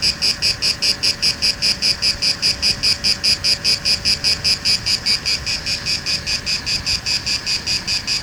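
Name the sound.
cicada chirping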